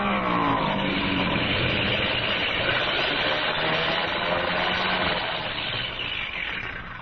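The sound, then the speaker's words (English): A loud, steady airplane engine drones throughout as the plane comes in to land, its rough mechanical roar holding constant before easing slightly at the very end; the engine has been acting up. “Engine's been acting up. I was afraid to trust it.”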